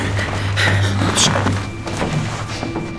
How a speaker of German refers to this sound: Es war in letzter Sekunde, denn jetzt hörten die drei Fragezeichen, wie sich eine Tür öffnete.